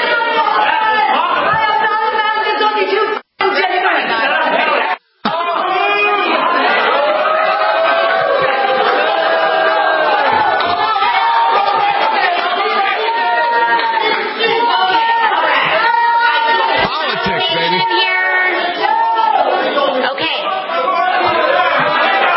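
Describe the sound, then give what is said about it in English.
A loud, dense crowd of many voices chattering and shouting over one another at an out-of-control event with AOC, the lights turned off to try to control the crowd, a continuous unruly din broken only by two brief silent gaps early on. “Turn the lights off to try to get the crowd under control.”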